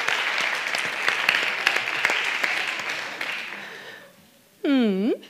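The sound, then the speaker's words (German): A live show audience applauds an audience member with dense, steady clapping for about four seconds, fading out, followed by a short voiced sound with a wavering, rising and falling pitch, like a whoop or cheer. “Dafür einen Applaus.”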